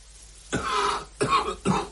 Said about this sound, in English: Grandfather lights a cigarette, then coughs. Grandfather is smoking. He's only just woken up.